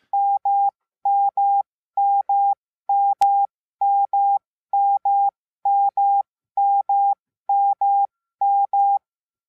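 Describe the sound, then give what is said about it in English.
Morse code letter M repeated about ten times: pairs of long, steady mid-pitched beeps with short gaps, evenly spaced, with one sharp click partway through and no talking. “So the M character is two dashes, if you want to visualize it on a piece of paper, it's two dashes.”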